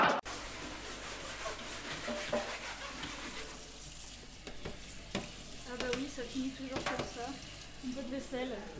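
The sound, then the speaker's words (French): Steady scrubbing and rubbing, with running, sizzling-like noise throughout and occasional sharp clinks of metal or dishes, as dishes are washed and range hood grilles are cleaned. “Un peu de vaisselle et un peu d'entretien courant. Mmh. Bah oui, les grilles de la hotte.”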